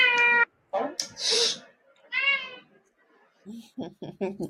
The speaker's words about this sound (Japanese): 猫が。 静かにして。